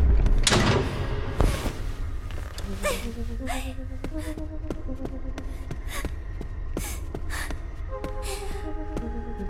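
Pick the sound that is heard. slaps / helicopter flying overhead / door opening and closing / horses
door opening and closing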